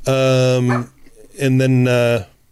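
A dog named Buddy barks twice at the door, each bark loud and drawn out into a long, tonal, almost howling call, with a short pause between them.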